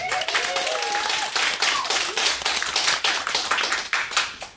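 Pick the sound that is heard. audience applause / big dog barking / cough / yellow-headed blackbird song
audience applause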